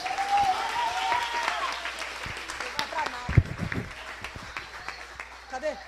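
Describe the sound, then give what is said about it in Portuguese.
A large group at a worship service claps steadily and enthusiastically for several seconds, applauding Jesus, a dense wash of applause, with scattered voices calling out over it. “Aplaude a Jesus.”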